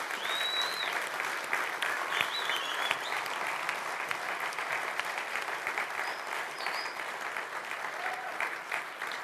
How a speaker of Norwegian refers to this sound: De fortjener en applaus.